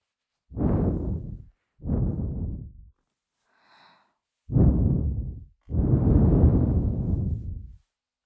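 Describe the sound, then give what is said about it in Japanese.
Four soft, airy, warm breaths blown toward the listener's ear in a slow rhythm, each a breathy rush that swells and fades, the last one drawn out longest. A faint brief sound sits in the pause between. “どうだ、私の吐息、熱くて心地いいだろう。”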